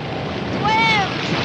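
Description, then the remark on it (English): Rough ocean waves churn in a steady, loud wash of surf and wind, with a brief high-pitched whine rising and falling midway through. “Keeping their heads above water, the dogs move through the rough waves.”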